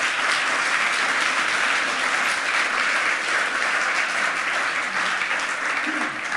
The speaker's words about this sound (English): Please give her a warm round of applause of welcome.